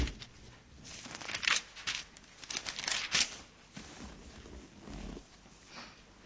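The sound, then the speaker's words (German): Paper rustles and flutters in a quick series of soft bursts as several pages of a Bible are flipped back, with a brief pause before a last quieter riffle. “Wir blättern nochmal zurück.”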